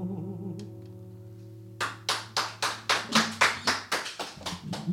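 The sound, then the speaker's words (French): A held musical note rings out, then a small audience breaks into loud, steady rhythmic clapping in unison, about a dozen sharp beats as the tone fades beneath. “Ouh, on peut applaudir encore hein, parce que franchement là on s'est bien amusé.”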